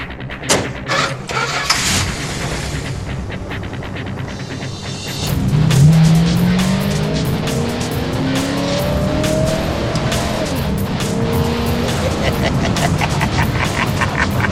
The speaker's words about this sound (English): when he fired up this Charger, whew, game over, baby.